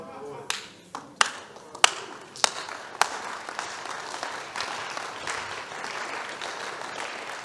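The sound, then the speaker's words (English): An audience claps for Jesus during a sermon, starting with a few sharp, scattered claps that quickly swell into steady, dense applause holding at a lively level to the end. “Give me one reason why you are not clapping for Jesus.”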